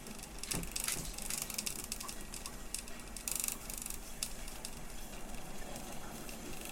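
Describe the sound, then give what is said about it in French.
A film processing machine runs steadily, a continuous mechanical whir layered with dense, fast clicking and ticking and a low hum, at an even, moderate level throughout with no voices. “qui avait le bruit de la machine qui fonctionne bien ou la machine qui a un souci”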